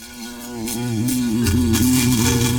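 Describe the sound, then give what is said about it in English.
A loud, droning buzz of a large, bulbous black insect, bigger than a cicada, with at least a dozen antennae, wavers up and down in pitch, with a few faint taps as it bangs against the glass of a jar. No one speaks. “It's buzzing madly, banging against the glass.”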